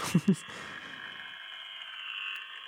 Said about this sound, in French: Voilà, c'est ça qu'on écoute, hein, une espèce de grésillement, des bourdonnements, et puis apparemment des prénoms qui sont... Ça fait peur, en fait.